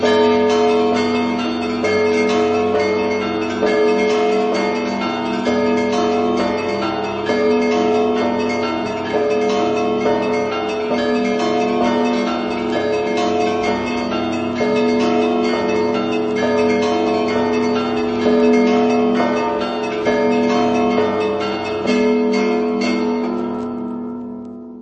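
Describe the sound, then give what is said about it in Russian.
A soft, continuous peal of swinging church bells, the bells themselves swaying as they ring, many overlapping strikes blending into a mellow, steady ringing that carries on for the whole stretch before easing off at the end. “а звонарь качает его язык, а покачивают сами колокола. Поэтому общий звон получается такой мягкий, и вот уж тут точно никто не может сказать, что это какое-то музыкальное произведение.”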